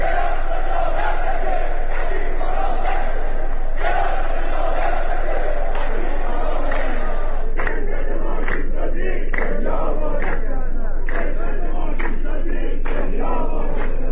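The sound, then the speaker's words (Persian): A large crowd of striking contract workers of the Arak machine-manufacturing factory in Iran chants loudly at a rally in the grounds of the plant, many voices shouting together in a steady rhythmic cadence of repeated bursts that continues throughout, with no separate speech over it. “کارگران پیمانکاری کارخانه ماشینسازی عراق دست کم دو روز اعتصاب و در محوطه این واحد صنعتی تجمع کردند.”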